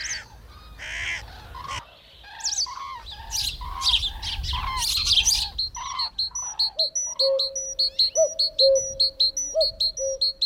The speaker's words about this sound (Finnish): Mutta ehkä kaikkein tärkein runolintu laulaa kuitenkin tässä. Mustarastas huiluineen.